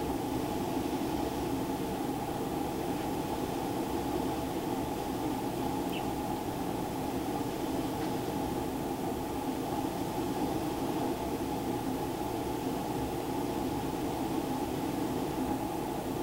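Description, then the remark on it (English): A steady, droning engine roar of an airplane holds at an even, fairly loud level throughout, with a dense low rumble and a hissing wash above it and no voices. “Now, whose plane is this?”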